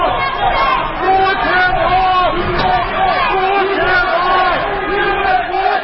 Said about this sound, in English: The scene outside the U.S. courthouse in Washington for Michael Flynn's departure was a mix of critics, some of them chanting, "Lock him up," and also supporters of Flynn shouting, "USA."